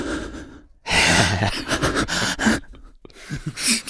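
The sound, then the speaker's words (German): A voice imitates loud, heavy breathing, with several long, noisy breaths in and out that rasp close to the microphone, separated by brief pauses, with no words spoken. “Ja, Leute, die laut atmen, habe ich auch eh nicht verstanden. Die so richtig so machen?”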